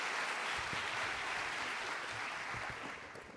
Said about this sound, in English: I think we wanted to interrupt you and give you some applause about three or four times during your talk. So can we do it one more time?